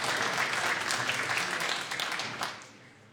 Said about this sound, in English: Please join me in welcoming these distinguished, talented, and patriotic young people. You can see them up in the gallery. Let's give them a big hand of applause and thank them for their service. Welcome to your California State Senate.